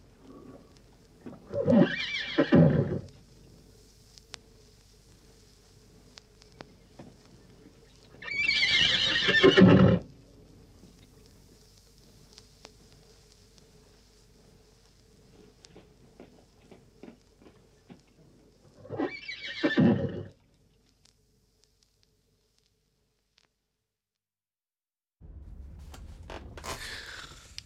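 A horse whinnies loudly three times, each neigh a shrill, shaky call lasting a second or two, separated by long quiet gaps with faint background noise. No one speaks.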